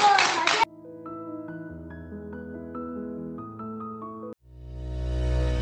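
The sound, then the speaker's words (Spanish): A short, loud burst of applause from a group of children after they recite a short poem about the eagle, lasting well under a second, cut off abruptly as a gentle tonal melody takes over. “Aplaudiros, que lo habéis hecho muy bien.”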